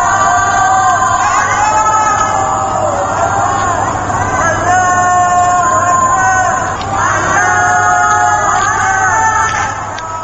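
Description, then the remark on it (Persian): Many voices shout "Allahu Akbar" together from the rooftops of homes in Iran at night, around 10:30 pm Tehran time, as a protest against the election results, in long, drawn-out overlapping cries, rising and falling in waves over a steady, loud hum of crowd noise for the whole stretch. “پس از انتخابات 22 خرداد، فریاد الله اکبر از پشت بام منازل که از ابزارهای اعتراض در زمان انقلاب 57 بود، بار دیگر مورد استفاده معترضان به نتایج انتخابات قرار گرفته است.”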